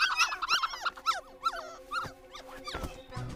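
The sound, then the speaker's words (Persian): Several dogs, called Google dogs, whine and whimper in rising, sliding yelps, with a short rough growl-like burst near the end; the sounds are fairly steady, with no talking. “الان گوگل سگا میان سنجابه گاز میگیرن.”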